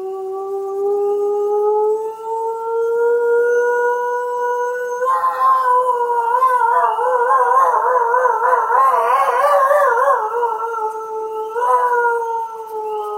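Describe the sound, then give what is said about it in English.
A single tentative, rising howl from a lone wolf holds steady, then around the middle the pack joins in, several overlapping voices wavering and crossing in a loud chorus of wolf howls, with young wolves shouting and roaring, before it thins out again. “you're going to hear a very tentative howl from a lone wolf. And then after that, the pack of wolves will start opening up.”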